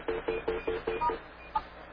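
Office phone keypad tones as call forwarding is taken off line one: six quick, evenly spaced beeps in a row, a short pause, then one final beep, clear with no talking.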